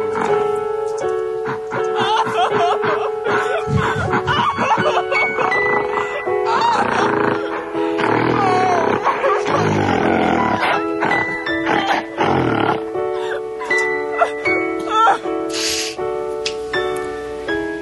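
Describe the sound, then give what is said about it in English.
Loud, rough snoring fills the whole stretch, nearly continuous, with raspy grunting snorts rising and falling in long uneven breaths. “Is that supposed to be you snoring and your significant other about to shoot their brains out?”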